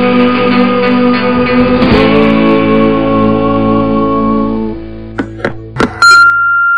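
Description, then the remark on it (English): A phone's ringing chime plays alone: bright, sustained electronic tones that hold and slowly fade, followed by a few short, sharp dings in quick succession near the end. “You got a phone call.”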